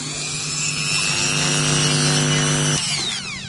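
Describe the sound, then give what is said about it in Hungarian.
A steady, high whining grind from a small rotary tool grinding a glass bead under running water, which keeps the glass from overheating, in a glass bead making workshop. It runs continuously and fairly loud, with a harmonic hum that shifts pitch near the end as the load changes. “Most akkor ezt a gyöngyöt kicsiszolom.”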